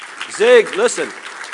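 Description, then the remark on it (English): Steady crowd applause for Zig Ziglar fills the short stretch, a dense patter of many hands clapping, with a loud voice briefly calling out over it in the middle. “Yeah, you can give him a big hand clap.”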